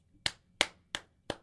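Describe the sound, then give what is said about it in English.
Four sharp hand claps in a steady, evenly spaced rhythm, crisp, with quiet background between them and no voices. “That's both my applause and the sound I make.”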